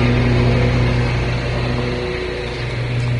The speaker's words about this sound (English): And that's just a car going by or something, I hope. Nope, they're mowing grass early in the morning this morning, 7:20.